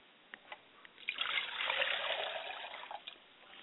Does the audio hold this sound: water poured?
yes